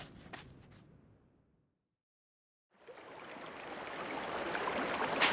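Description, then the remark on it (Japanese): Steady rushing of flowing river water fades away into a brief silence, then returns and swells louder toward the end, with no voices. “川だ。本物の川だよ。”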